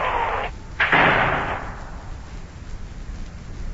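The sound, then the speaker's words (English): Two sharp thunder cracks during a rainstorm with lightning flashing outside, the second louder and rolling off into a fading rumble, over a steady hiss of heavy rain. “Boy, that lightning sure is flashing outside.”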